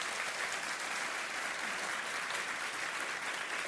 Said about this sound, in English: Round of applause for our panel.